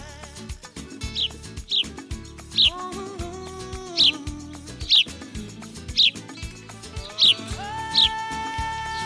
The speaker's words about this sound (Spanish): ¡Ay, qué bien que estamos en primavera! Y con la primavera llegan las plantitas, llegan los animalitos, llegan los pajaritos